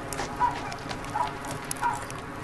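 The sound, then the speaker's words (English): A farm dog barks three times at an even pace, not very loud, over a steady outdoor background hum. “Farm dog.”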